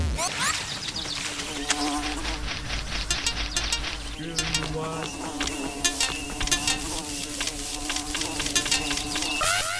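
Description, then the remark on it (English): Continuous insect-like buzzing of wasps in a video game, steady and fairly loud, with sharp clicks and short electronic tones scattered throughout and no speech. “Same game as last time with the Wasps.”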